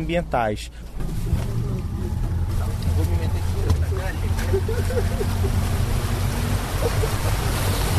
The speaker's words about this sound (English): So it started raining furiously now, as it tends to do in the rainforest, and we've just pulled up next to Ponta Negra, which is a large beach on the Rio Negro.